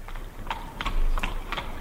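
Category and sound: animal, horse hooves clip-clopping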